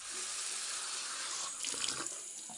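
Water runs steadily from a bathroom tap in a broad, hissing stream, with a few splashier gurgles near the end as it hits the basin, as someone drinks water from the tap. Fairly loud, no voices.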